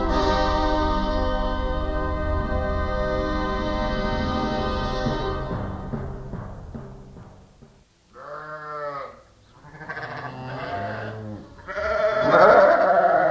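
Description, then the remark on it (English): Sheep and lambs bleat in a flock on a sheep farm in Massachusetts, a steady chorus of overlapping calls at first, then several loud, wavering bleats one after another. “We caught up with her in the middle of her flock.”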